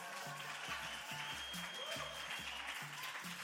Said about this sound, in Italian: Grazie Nahuel, un applauso a Nahuel Martinez.